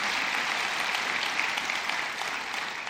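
Steady audience applause for members of the military on the 4th of July, a dense crackle of many hands clapping at an even, sustained loudness through the whole stretch, with no voices standing out above it.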